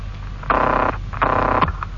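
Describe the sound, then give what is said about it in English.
A telephone rings in two short buzzing bursts, the classic double ring, fairly loud, with a faint background hiss and no talking. “It's ringing now.”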